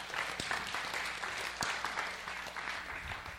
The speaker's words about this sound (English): How many of you believe this is God's will to respond? Just clap your hand.